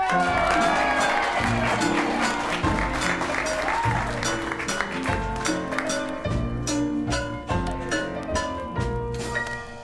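Loud, continuous audience applause with scattered cheers, strongest in the first seconds, while rhythmic instrumental music plays underneath throughout.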